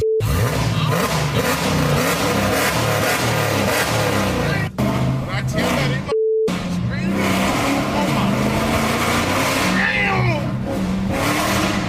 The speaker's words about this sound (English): If you listen carefully between all of the roaring of the engine, you can hear just right underneath. Sound like a Dracula. Lord. Can you hear it? Could you hear it?